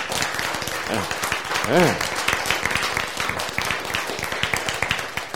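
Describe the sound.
A crowd claps steadily throughout, dense overlapping applause with many hands, while a few voices call out briefly near the start.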